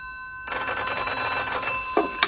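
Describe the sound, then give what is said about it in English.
An old-fashioned telephone bell rings in a rapid continuous trill, loud, with steady ringing tones before it cuts off near the end, followed by a couple of brief clicks; a morning call to a bachelor apartment in a cul-de-sac off Pall Mall. “At the following morning, at his bachelor apartment in a cul-de-sac off Pall Mall, he had 2 callers. The first by telephone.”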